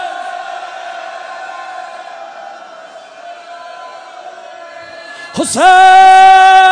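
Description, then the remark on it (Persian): A crowd of mourners beating their chests and crying out for Hussein cries out loudly in a long, sustained wail that holds steady, then surges suddenly into a louder, piercing held cry near the end. “حالا دورش سینه میزنی گریه میکنی، بیا همین جلوی جالگاه فریاد از غریبی حسین.”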